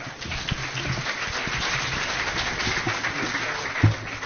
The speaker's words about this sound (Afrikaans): Vriende, medesoekers, ons bied julle die redakteur van die kerkbode. Kom ons gee vir my lekker hande klap.